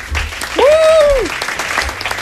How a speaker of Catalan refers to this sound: Senyores i senyors, donam un fort aplaudiment a en Tomeu Sureda.